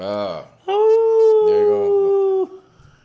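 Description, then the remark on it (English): A person lets out a long, loud imitation of a wolf howl, a steady sustained tone lasting nearly two seconds that bends downward at the end, with a brief voice just before it. “Playing the Pack of Wolves, ….”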